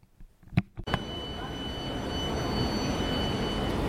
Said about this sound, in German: Station 1, wir stehen am Linzer Bahnhof, Hauptbahnhof. Der Tag erwacht so richtig erst, überall rennen die Leute geschäftig hin und her.